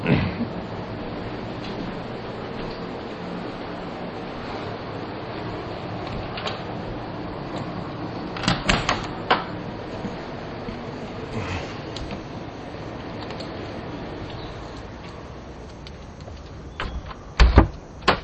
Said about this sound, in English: Boy, that air conditioner's noisy.